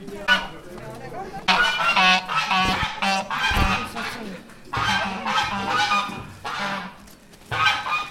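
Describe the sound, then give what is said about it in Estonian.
Loud geese honk repeatedly in overlapping bursts, a noisy gaggle calling with brief pauses between rounds of harsh, nasal cries, at the Kikendi köki tower on its opening day. “kus avapäeval kõndisid treppe mööda kitsed, kus valju häält tegid haned ja kukked ja kust ei puudunud ka läikiva karvaga kena linnarott.”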